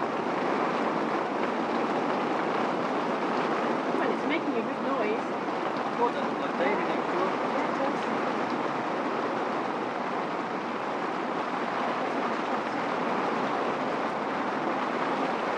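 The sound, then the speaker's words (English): Water rushes steadily over the edge of a wall and pours into the river behind it, a dense, continuous roar that holds an even loudness from start to finish. “And it's flowing. Parking skid goes over the edge of the wall and then into the river behind it.”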